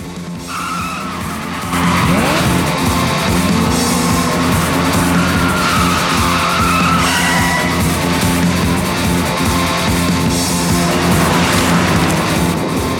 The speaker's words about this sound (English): They all head off towards the car. Then they're speeding round the back roads again.